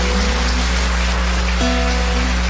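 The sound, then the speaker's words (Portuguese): An audience applauds mothers at a Mother's Day service, a dense, steady wash of many hands clapping at once, holding even loudness from start to finish with a faint low hum underneath. No one speaks. “Uma salva de palmas.”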